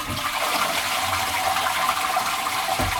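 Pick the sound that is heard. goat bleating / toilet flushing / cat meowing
toilet flushing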